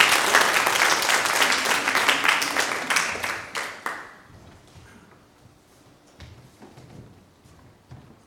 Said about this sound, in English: So be really friendly. Give her a round of applause as she comes up.